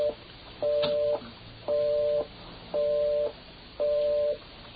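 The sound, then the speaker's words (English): After a phone number is dialed at 2:55 in the morning, a telephone busy signal repeats steadily, a dual-toned electronic beep pulsing on and off at an even half-second rhythm, clear, with a faint line hiss between pulses and no voices. “I got a phone number to dial myself.”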